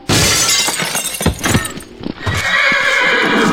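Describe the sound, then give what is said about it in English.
Rounded-up horses neigh and whinny while hooves clip-clop in a quick, uneven rhythm, with a brief crash of breaking glass partway through. No one speaks. “Boss, you got all the horses rounded up.”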